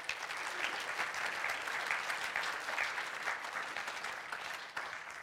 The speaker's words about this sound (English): So thank you. Give all those guys a round of applause again.